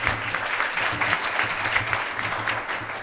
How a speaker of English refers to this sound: So a huge round of applause for them as well, because this was a group effort.